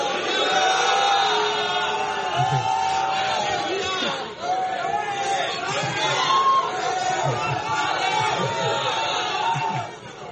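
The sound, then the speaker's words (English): A crowd of many voices shouts "hallelujah" together in a steady, overlapping roar that holds loud for about ten seconds, with a brief dip partway through before the shouting swells again. “Brothers who can cook here, shout hallelujah.”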